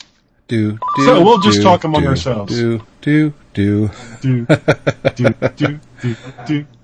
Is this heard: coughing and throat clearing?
no